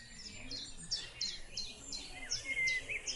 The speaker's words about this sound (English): Now listen to this. I pulled this up on my phone. You hear that? Let's let it go again. Wait for it. You have any idea about this bird? You ever heard it before?